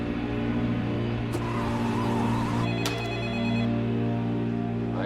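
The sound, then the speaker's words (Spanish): A telephone rings with steady electronic tones over a dense, constant background hum, the ringing tones stacked in bright horizontal bands that persist throughout, fairly loud. “Llaman de nuevo.”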